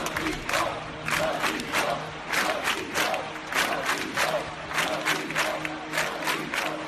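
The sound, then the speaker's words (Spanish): Thousands of people gathered in Plaza de Cataluña, Barcelona, for a minute of silence for the victims of the Barcelona and Cambrils attacks chant the slogan "No tengo miedo" (I am not afraid) in unison, loud rhythmic shouts repeating about twice per second with a steady roar of voices underneath. “Este es el grito que salió ayer de la boca de miles de personas que se congregaron en la Plaza de Cataluña para guardar un minuto de silencio por las víctimas de los atentados de Barcelona y de Cambrils.”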